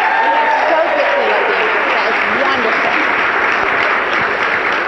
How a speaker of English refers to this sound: I think the child deserves a big round of applause.